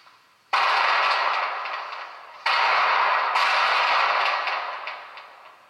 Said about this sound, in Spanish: La primera evidencia de estos sonidos fue en una noche de 1986, cuando el equipo de Cuarta Dimensión dirigido por Carlos Bogdanik instaló un equipo de grabación en el pueblo viejo. Estas grabaciones ocultaban sonidos de bombas, aviones y gritos.